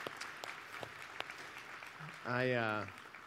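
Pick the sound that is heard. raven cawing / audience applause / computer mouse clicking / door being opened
audience applause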